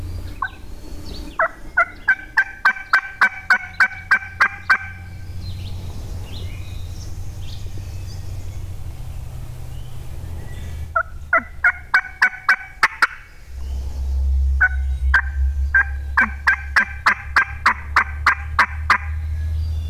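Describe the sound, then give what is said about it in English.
A wild turkey hen yelps in several runs of rapid, evenly spaced notes, fairly close and loud, with pauses between series over a low rumbling background. “And it was probably just a few minutes later, and we heard a hen out there, and she was pretty close to us. She started yelping.”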